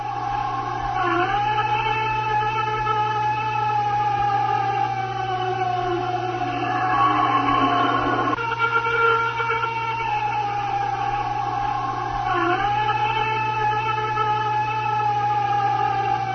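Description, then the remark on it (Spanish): A purported Bigfoot howl recorded in Washington State, in the northwestern United States: long, wavering, siren-like wails that rise and fall over sixteen seconds, with rich harmonics, a brief louder swell midway, and a steady low hum underneath. No one speaks. “Bueno, pero el lenguaje Bigfoot parece que se le ha perdido la cartera. Se está lamentando.”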